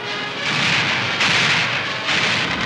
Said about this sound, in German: Da peitschen die ersten Schüsse durch die Straßen.